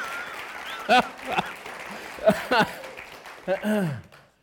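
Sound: audience clapping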